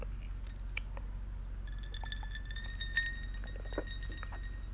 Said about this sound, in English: Sorry, little iced tea sip.